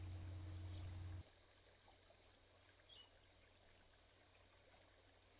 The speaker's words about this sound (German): Hörst du vielleicht das Rauschen des kleinen Bachlaufes, wie leise sich das Wasser über die kleinen Steine im Flussbett schlängelt?